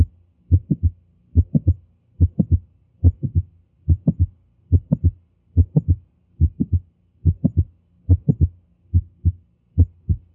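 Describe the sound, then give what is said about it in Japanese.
A steady heartbeat heard through a stethoscope placed over the heart, about one beat per second, with two sharp mid-systolic clicks overlapping between the main heart sounds. Clear and rhythmic, with no talking. “これは収縮中期に2つクリック音が重なっているわけです。”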